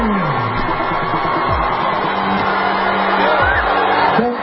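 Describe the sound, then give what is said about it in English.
A large concert crowd in Minnesota booing Ilhan Omar as she walks onto the stage, a dense, steady roar of many voices with low, drawn-out jeers sliding downward, loud throughout the whole stretch. “They're booing her.”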